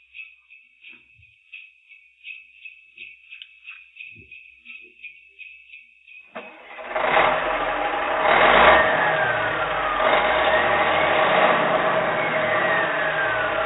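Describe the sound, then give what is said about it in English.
A rapid high-pitched ticking runs for several seconds, then a tractor-trailer truck engine sound effect starts up and roars loud, rumbling steadily with surges of revving until the end. “She wrote this while she was driving her tractor-trailer truck, and she sent this to us, and I just added a few sound effects.”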